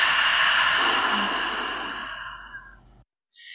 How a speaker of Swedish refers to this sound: Och så tar vi några riktigt djupa andetag tillsammans, andas in genom näsan och ut genom munnen.